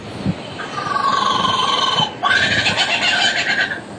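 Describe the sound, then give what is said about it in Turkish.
A male lyrebird, singing to attract females, mimics a kookaburra's call: loud, harmonic hooting notes that break into a rapid, rhythmic cackling chatter for the second half, with no voices present. “And he does that by copying the songs of all the other birds he hears around him, such as the kookaburra.”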